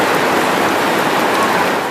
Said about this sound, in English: A dangerous deluge falls on tarps, tents and dirt. This is the second major downpour in as many weeks, inundating the camps which have sprung up across Gaza amidst the rubble of 2 years of war.